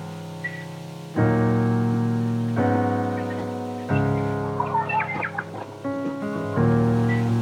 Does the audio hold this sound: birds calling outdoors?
yes